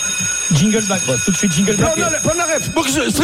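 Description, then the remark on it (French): A bell rings continuously at 8 in the morning with a steady, high-pitched metallic tone. Voices talk loudly over it the whole time, while the ringing holds in the background. “Ça sonnerie, Vincent, 8h du matin.”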